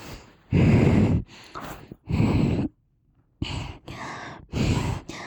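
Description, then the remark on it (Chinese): Loud snoring from a person who is asleep: a run of heavy, rasping breaths in uneven bursts, a brief quiet gap, then several more snorting inhales. No one speaks. “真睡着，天哪，你射血啊，打呼噜还。”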